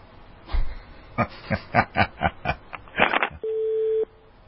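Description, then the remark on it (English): A rapid series of short clicking pulses gives way to a steady, electronic phone-line tone that holds for under a second after a dropped call, fairly loud, with no voices. “And we had him and we lost him, didn't we?”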